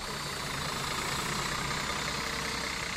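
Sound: tour bus engine idling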